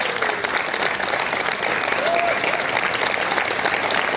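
A scattering of applause from a group of people after Trump announces that the United States will withdraw from the Paris Climate Accord, clapping steadily and fairly loudly for a few seconds as a continuous patter with no clear break.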